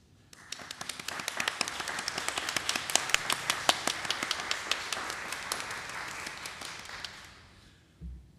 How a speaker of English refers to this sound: If any of our graduates or their families, are here, if you would rise so we can offer a praise Thanksgiving in the form of applause.